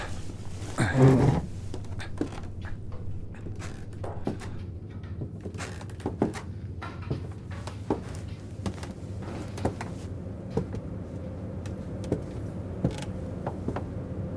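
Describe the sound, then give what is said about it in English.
A door creaks slowly shut, opening with a louder groan and then a long series of drawn-out, strained squeaks and small clicks over a low steady hum, without voices. “Is the door still... It's closed now.”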